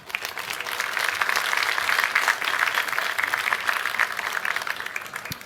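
A crowd claps steadily for several seconds, a dense, even wash of applause that holds at a fairly constant loudness before thinning out at the end. No one speaks over it.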